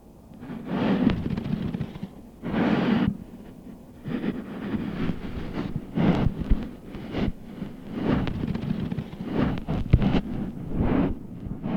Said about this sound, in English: when I was at Whitefish Dunes, I wanted to go further and put a hydrophone in the dunes themselves while I walked on them, as I had heard that this technique will really let you hear the sand move. So I did. This is what it sounded like.